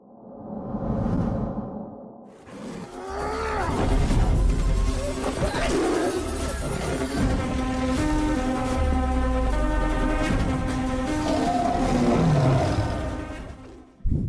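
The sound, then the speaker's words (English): Tigers roar and snarl through a loud, chaotic fight in a film scene set at a governor's place, the growls rising and falling over a dense, sustained musical score with whooshing rushes, continuous for most of the stretch. “So actually, that's actually our next sequence that we wanted to jump into, the tiger fight scene at the governor's place.”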